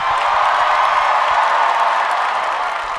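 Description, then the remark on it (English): Loud, sustained applause and cheering from a large DC audience welcoming Senator Kirsten Gillibrand, a dense steady wash of clapping with whoops mixed in, holding at full level throughout with no talking. “Please welcome Senator Kirsten Gillibrand.”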